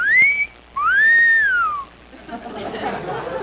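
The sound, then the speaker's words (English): Wind whistling through an old haunted house: two eerie, high whistling tones swoop up and then slide down, the second one longer. They give way to a soft, breathy rush of wind-like noise. “Hey, kids, just listen to the wind whistle through that old haunted house.”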